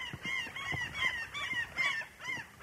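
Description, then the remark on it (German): Gulls screech over and over in harsh, wavering cries that overlap in a steady, uneven rhythm, fairly loud against an otherwise silent outdoor background, on a mild day at Lake Onkivesi in central Finland. “Außer dem Geschrei der Möwen herrscht absolute Stille.”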